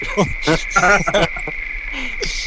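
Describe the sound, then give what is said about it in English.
A steady, high-pitched chirring of crickets, a sound effect played from a soundboard, runs unbroken through the whole clip, moderately loud, while short bursts of voices break in over it near the start. “That's the wrong crickets. No. I've got the wrong crickets on the soundboard.”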